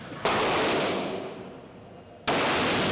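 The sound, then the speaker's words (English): Two loud, sharp gunshots from a large heavy-duty .44 revolver, the kind Dirty Harry made famous, fired at a paper silhouette target, about two seconds apart, each a booming crack followed by a long, rumbling decay that fades until the second shot. “and we brought a large 44. It's the heavy-duty revolver Dirty Harry made famous.”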